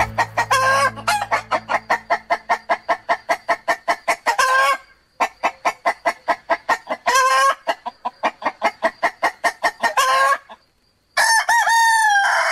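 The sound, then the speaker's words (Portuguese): A rooster crows loudly several times, with dense rapid clucking from hens filling the gaps between the crows, opening the radio programme De Terra em Terra on Rádio Alfa. No one speaks. “Ao som do canto do galo, estamos aqui a entrar no programa de Terra em Terra nas margens da tradição, hoje com dois M's, com a Melanie e o Manel Moreira.”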